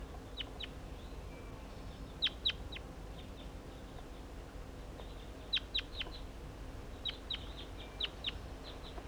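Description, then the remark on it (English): A wild crossbill, in deciduous trees near a net, gives sharp, high chip calls in short clusters of two or three, repeated throughout over a steady low background rumble, with no talking. “I believe the other crossbill is in the deciduous trees here near the net.”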